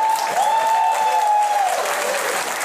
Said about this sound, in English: And again, now I want to hear a round of applause for people who have heard it and thought Grandma and Grandpa did it.